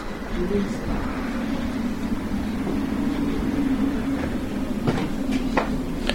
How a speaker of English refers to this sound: Well, there's one car coming, but we're just going to get on the back of the tram. All right, here we go.